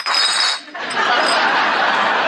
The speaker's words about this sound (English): Sounds kind of like pop bottles. Well, they're not. They're paper.